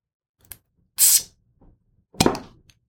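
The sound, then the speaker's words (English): A mead bottle is popped open with an opener: a small click, then a bright, airy hiss of escaping gas, a faint tap, and a second louder burst with a fizzy tail. No one speaks. “Let's pop this thing open.”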